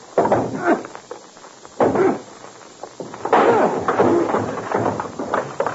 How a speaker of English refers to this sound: Now listen, we'll knock once. The door isn't open. We'll kick it in. Have your gun handy.